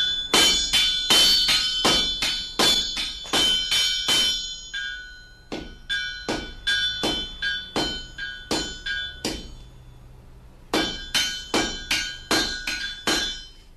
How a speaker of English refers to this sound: No, we're drawing out a piece of iron. The horse will go a bit close on one side, so we're tinning him right out on one side. And it's 1/4 by 1/2 iron, so it takes a bit of sledging to draw it out.